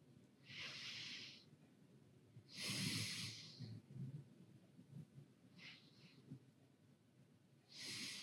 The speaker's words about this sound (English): Breathing is neshima, same words as neshama. Connect to your soul just by breathing in and out.